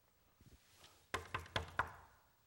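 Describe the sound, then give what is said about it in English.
Four firm knocks on a door in quick succession, fairly loud, preceded by a few faint soft thuds, then quiet. “I'm going to knock on this door.”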